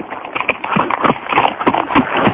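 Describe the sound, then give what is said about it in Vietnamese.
Horse hooves clip-clop in a quick, steady patter, the hoofbeats fairly loud and slightly muffled, with no voices over them. “Tiếng gió ngựa vọng lại từ đầu đường, có người hô to.”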